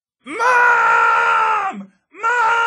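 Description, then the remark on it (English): A voice imitates a child screaming "Mom!": one long, loud, strained wail held for over a second, then a second cry starting after a brief pause, alone. “Finally, she drives away, and she's still screaming, Mom!”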